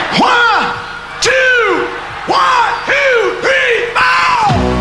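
A huge concert crowd of 61,500 at Ullevi stadium roars in unison, five loud, rhythmic swelling shouts that rise and fall in pitch like a chant, each about a second long, with no separate talking.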